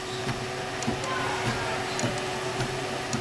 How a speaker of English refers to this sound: At first glance, the MakerBot Replicator 2, located at the Taubman Museum of Art in Roanoke, looks like an ordinary inkjet printer, but... it's printing layer by layer, and if you can see that the filament is coming like the cartridge.